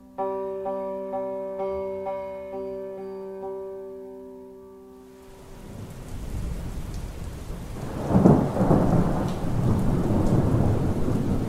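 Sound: rain shower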